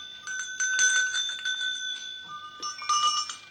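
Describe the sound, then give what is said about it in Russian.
Several small bells made for rams are rung together, jingling and clanging in quick, irregular bursts, their bright metallic tones overlapping and ringing on with no one talking. “А вот эти колокольчики, это для баранов. Как они звонят?”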